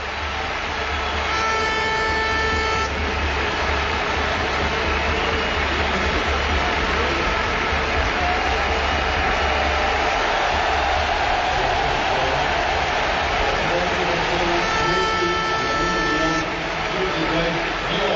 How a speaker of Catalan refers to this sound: I atenció que ara sí, hi haurà canvi al Barça. Giovanni Dos Santos substituït per Messi. Aquesta és la reacció del públic.